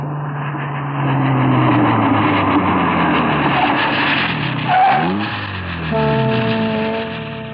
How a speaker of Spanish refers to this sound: Sargento, estamos llegando al muelle 18. Detenga el auto aquí.